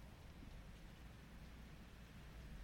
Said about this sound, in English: I can hear the rain through that. I wonder if the listeners will be able to hear. It's so nice.